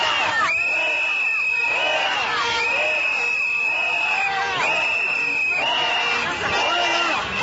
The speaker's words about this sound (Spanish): Con cantos y pitos, representantes católicos y cristianos pedían a gritos la renuncia de la funcionaria.